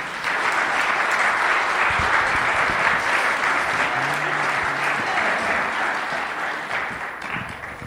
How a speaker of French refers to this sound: Applaudissez-le.